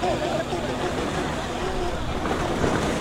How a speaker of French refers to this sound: Là, on est en février 2017. Ça fait 8 heures que j'ai quitté la Libye. Je suis sur un bateau pneumatique. On a environ 100 à 120 personnes. Et on voit le bateau de l'Aquarius SOS Méditerranée venir vers nous.